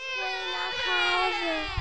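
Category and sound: human body sound, children crying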